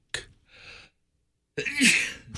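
A single loud sneeze: a short sharp catch of breath, a drawn-in inhale, then an explosive, breathy burst that trails off. No one talks.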